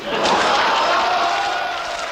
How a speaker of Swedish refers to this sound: Wałęsa väcker jubel. Hans popularitet är inte att ta miste på.